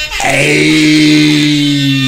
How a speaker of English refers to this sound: You keep on like pressing on his face, pause. Yeah, because his face is there, but we give him the old school air horn.